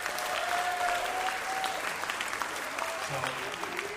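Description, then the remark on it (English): A crowd of musicians who played that day claps steadily in a dense, continuous patter of many hands, moderately loud and sustained for several seconds, with a faint tone and murmur in the background. “If you are one of the musicians that played today, can you clap right now?”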